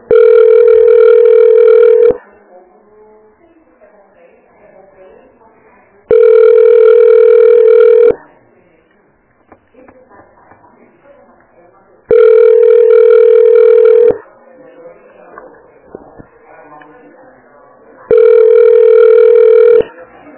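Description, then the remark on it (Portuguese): A telephone ringback tone plays while on hold after calling the Almoxarifado Central da Saúde, sounding four times, each a steady two-second buzz at a fixed mid pitch, separated by about four seconds of quiet line noise. “Você ligou para Almoxarifado Central da Saúde. Aguarde para ser atendido.”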